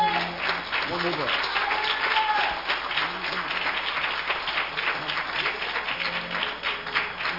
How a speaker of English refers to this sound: Praise God. Well, hallelujah. Praise God. One more clap for Jesus.